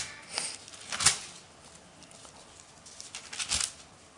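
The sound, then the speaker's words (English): Thin Bible pages being turned toward Romans 12:18, a few crisp papery flips and rustles spaced irregularly, fairly quiet, with no talking. “Keep turning the page.”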